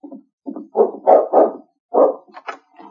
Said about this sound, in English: Then the dog barked. Sakes alive, that sounds like King.